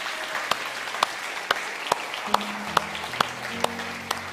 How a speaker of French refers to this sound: Est-ce qu'on peut applaudir par avance ce que Dieu va faire cette année ?